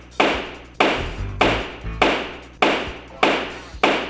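A gavel pounds hard and steadily: seven loud wooden strikes at an even, fairly quick pace, each a sharp crack with a low thud and a short ringing decay. No voices are heard.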